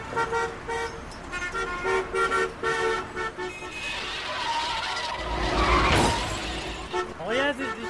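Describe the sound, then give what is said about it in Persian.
A car horn toots in short repeated blasts, then tires screech in a rising skid as a driver brakes, ending in a loud crash with a sharp shattering burst as a car is hit at the rear and front. “رانندگی بلدی برادر من، شما زدی رو ترمز. من زدم رو ترمز، تو رانندگی بلدی.”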